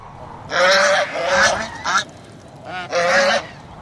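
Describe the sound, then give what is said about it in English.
Swans flying overhead call out in a quick series of loud, brassy honks, about five calls in two bursts with a short pause between, clear with no voices. “Tell me, please, what kind of birds you are? They are swans, answers a dog running by.”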